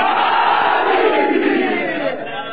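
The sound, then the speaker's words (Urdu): A large crowd roars the religious chant "Naara-e-Haidari" with full force and both hands raised, a loud, sustained chant in unison, a dense wall of many voices holding steady for a couple of seconds before easing slightly at the end. “اچھا جو نہیں تھکانا وہ دونوں ہاتھ بلند کر کے پوری طاقت سے نعرے حیدری.”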